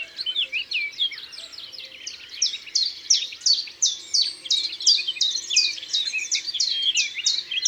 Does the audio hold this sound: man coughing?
no